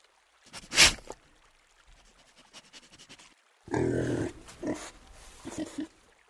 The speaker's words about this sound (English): The creature was drinking at the stream. Then again, there was silence, broken by a succession of long sniffs and snorts of tremendous volume and energy.